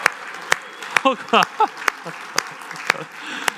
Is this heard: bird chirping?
no